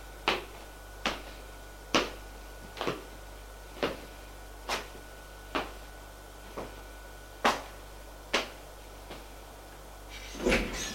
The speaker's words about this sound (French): Elle ouvre la porte. Elle s'apprête à la fermer derrière elle. Mais son mari a mis sa main et ferme la porte derrière lui.